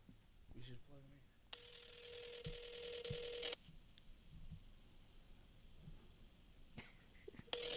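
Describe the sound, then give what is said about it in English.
A phone call rings out over speakerphone: one steady, buzzy ring tone lasting about two seconds, surrounded by muffled voices and room noise, with no answer. “He ain't picking he's up, sleep.”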